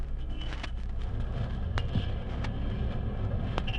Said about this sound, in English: We go through the steady stream of noisy city traffic into a massive stone skyscraper, where high up on the 23rd floor, behind a beveled glass door marked Cross Enterprises Incorporated, three men are talking.